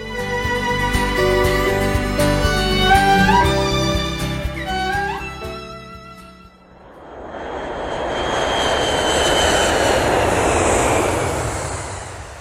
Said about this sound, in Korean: 뉴욕 JFK 공항에서 브라질로 가는 비행기에 올랐다.